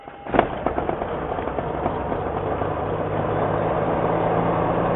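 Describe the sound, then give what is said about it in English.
A loud sharp pop kicks off an engine start, followed by a flurry of quicker popping backfires as the engine catches and settles into a steady, building rumble. “Okay, start them up. Car pop.”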